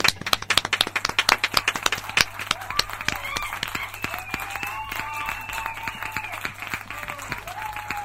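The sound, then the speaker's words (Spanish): A person applauds himself, hands clapping in a quick, uneven burst of sharp claps, loudest at the start and gradually thinning out, with faint whistle-like cheering tones rising and falling over the later claps. “Me voy a aplaudir yo mismo.”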